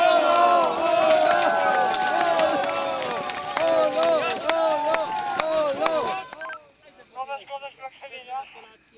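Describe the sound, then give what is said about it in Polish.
A crowd of runners sets off at the start of an 18-kilometre race, with many voices shouting and cheering for about six seconds before it cuts to quieter, thinner talking. “No pobiegli.”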